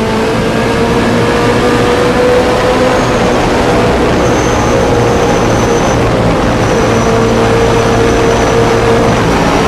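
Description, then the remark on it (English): A race car engine roars loudly and continuously on a track as the car comes out of a big turn, turn 9, onto the straight, its droning pitch creeping slightly upward as it accelerates, with no voices over it. “Coming out of the big turn, you're about to hit the straight. This is turn 9.”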